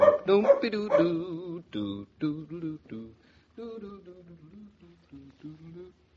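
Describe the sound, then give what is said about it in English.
A dog named Bluff barks and yelps excitedly as he returns home, in a string of short, wavering bursts, loud at first and then settling into softer, whining yips. “Well, Claudia, the prodigal pup returns.”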